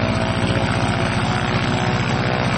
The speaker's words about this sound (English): It's a beautiful airplane. Oh, man. It's like cabin class. That sounds awesome. Look at that thing go. There it sounds smooth as glass. It's taxiing out to the runway.